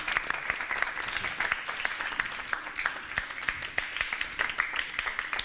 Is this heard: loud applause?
yes